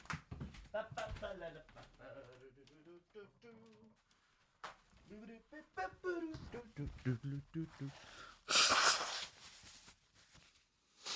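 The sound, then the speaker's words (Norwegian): A single loud, breathy honk of a man blowing his nose into a tissue, lasting about a second. A man talks before and after it. “Der ja, fikk jeg snytt med.”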